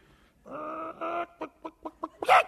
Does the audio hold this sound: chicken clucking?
yes